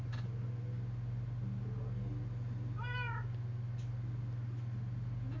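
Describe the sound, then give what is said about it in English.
A single recorded cat meow plays from an Alexa smart speaker near the middle in response to a spoken 'meow' command, rising and falling briefly over a steady low electrical hum, with otherwise quiet surroundings. “So I don't need a cat for that now, do I?”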